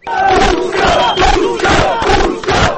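A crowd of several hundred people in the centre of Novi Pazar, celebrating Turkey's basketball win over Serbia, chants and shouts the slogan "This is Turkey" in loud, rhythmic bursts, the massed voices rising and falling in a steady repeating pattern for the whole stretch.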